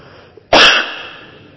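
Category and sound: human body sound, coughing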